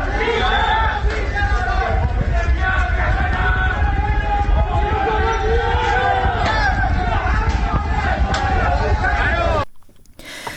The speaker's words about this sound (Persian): صدای اعتراضاتی که میشنیدید شب گذشته بود در محلات مختلف استان تهران بود که میشنیدید